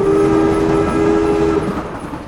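A train rumbles along steadily while its horn sounds one long, loud, sustained blast that cuts off partway through, leaving the low rolling noise of the cars. The train is crossing the desert on its way east across Arizona and New Mexico.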